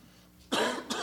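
A man coughs and clears his throat: one harsh, raspy burst followed by a shorter second hack, loud against an otherwise quiet background with no talking.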